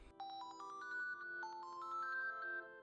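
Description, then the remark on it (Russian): A telephone rings with a bright melodic ringtone, a short rising run of electronic notes played twice in a row, loud, with no voices. “Вновь зазвонил телефон”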